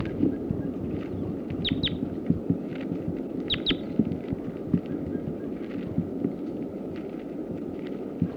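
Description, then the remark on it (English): A captured red male sitkensis crossbill gives a few sharp, high call notes in two quick bursts early on, over a steady low rumbling, thumping background noise with no talking. “So recording, that's the male that was just captured, the sitkansis.”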